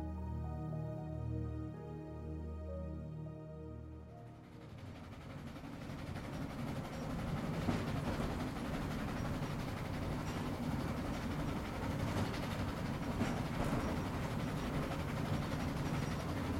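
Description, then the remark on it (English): A brief tonal hum fades into the steady, rumbling clatter of a slow provincial train in Sicily, heard from inside a carriage on a summer afternoon as it travels from Palermo towards a small coastal town, continuing evenly with no talking. “So now, imagine the warmth of the Mediterranean sun shining over you, and conjure the rhythmic sensation of travelling on a lazy provincial train, This is where our story begins.”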